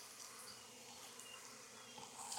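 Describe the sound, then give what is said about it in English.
A dense, steady hum of many honeybees buzzing together on a hive frame as a beekeeper works the frame, a continuous droning swarm with slight swells in intensity and no voices. “Bees really don't like this, so you might get stung doing it.”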